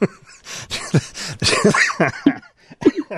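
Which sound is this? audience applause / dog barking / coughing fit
coughing fit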